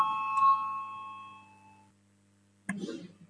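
signal or alarm, parliamentary voting bell ringing

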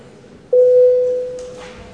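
signal or alarm, parliament voting bell signal

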